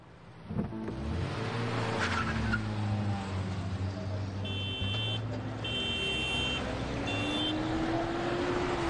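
A car engine drones steadily, its pitch rising slowly near the end, while a series of high electronic beeps sounds intermittently midway through.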